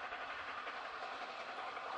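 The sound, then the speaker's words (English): An old steam locomotive racing past at about 100 miles per hour, heard as a steady, dense rushing roar that stays loud for the whole couple of seconds, with no voices. “Look at this, 100 miles an hour, that's old steam locomotive. Watch it fly.”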